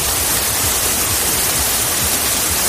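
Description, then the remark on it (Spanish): The swollen Albarregas River in Mérida, Spain, dry until a few days earlier, rushes hard after intense weekend downpours, flowing a few metres below the bridges that cross it: a loud, steady roar of churning water across the whole range, continuous and unbroken with no voices. “Chaparrones intensos que han provocado estampas que hacía mucho tiempo que no veíamos por aquí, como por ejemplo en Mérida, con el cauce del río Albarregas seco hasta hace pocos días, corriendo con fuerza y a pocos metros de los puentes que lo cruzan”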